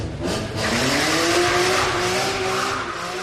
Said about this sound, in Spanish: ¿Alguna vez te has parado a pensar a qué huele alguna de las muchas escenas de Fast and Furious, por ejemplo, cuando arrancan el coche y queman rueda?